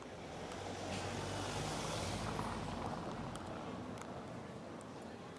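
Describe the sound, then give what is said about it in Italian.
Steady street traffic of passing cars rumbles, with a broad low engine drone and a passing vehicle swelling and fading, over a constant hiss of outdoor noise, heard from the sidewalk of a street by Palazzo Fede. “E, niente, passano le macchine, quindi stiamo sopra il marciapiede, venite, ci mettiamo qua”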